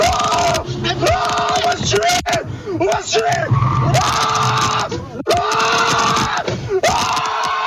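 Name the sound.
man screaming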